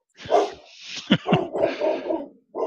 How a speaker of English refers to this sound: Yeah, well, we kicked ours out, but they barked in the background for a little bit too.